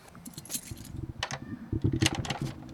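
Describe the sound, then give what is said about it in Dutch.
Bright metallic jingling of a bunch of keys, shaken and clinking irregularly for a few seconds alongside scraping and clunking of metal as a key is worked into the heavy lock of a large gate. “Nee, grote sloot. Ja. Heb jij dan gewoon de sleutel van?”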